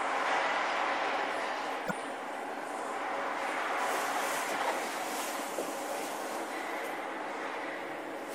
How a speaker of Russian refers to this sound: Составы метро отстаиваются в депо. Чтобы они исправно работали и доставляли пассажиров по месту назначения без поломок, составам требуется техническое обслуживание.